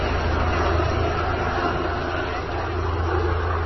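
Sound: helicopters flying overhead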